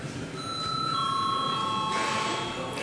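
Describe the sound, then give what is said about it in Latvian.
An electric bell rings continuously in a parliament chamber to call members to a vote, a steady, fairly loud tone lasting a couple of seconds over a hushed background with no one speaking. “Debats slēdz. Lūdzu zvanu.”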